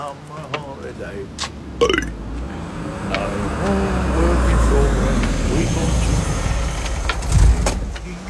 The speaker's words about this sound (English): But if that car hadn't drawn up beside him on the promenade, I don't think his awful plan would ever have occurred to him.